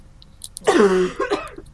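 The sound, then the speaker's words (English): A single loud cough with a rough, throaty rasp, followed by a shorter second hack, like someone clearing something from their throat. “That was a cough.”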